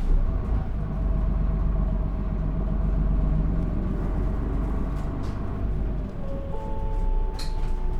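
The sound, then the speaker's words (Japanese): Steady low rumble inside a bus bound for Fujiura Station via Gakuen Takezono Sakuramachi, with engine drone and road noise throughout; next stop Higashi Jutaku. A whining engine tone shifts pitch partway through, and a few faint rattles and clicks come near the end. “このバスは、学園竹園桜町経由藤浦駅行きでございます。”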